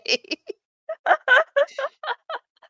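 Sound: turkey gobbling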